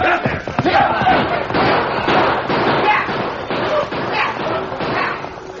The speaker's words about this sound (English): The band of shouting outlaws raced toward the herd with guns barking. The peacefully grazing herd became a thundering stampede of terror-stricken cattle that was held in a close mass of bobbing longhorns by the hard-riding outlaws.